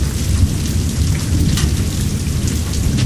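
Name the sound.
thunder rumbling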